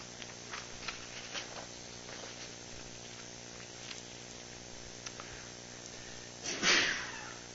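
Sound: sneeze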